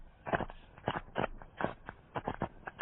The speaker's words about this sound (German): Schlammblasen.